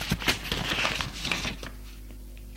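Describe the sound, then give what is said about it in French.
Paper rustles and crinkles for about a second and a half as someone at a writing desk takes paper to write a letter, a dense run of soft crackling handling noises that then fades into near silence. “Prends du papier.”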